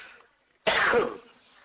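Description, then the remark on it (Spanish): A single deliberate, performed cough, presented as a Catalan cough, bursts out harsh and breathy, lasting about half a second, with quiet breath noise before and a fading rasp after. “Después ya lo otro, perdón, lo otro, mira, ahora voy a enseñar una tos catalana.”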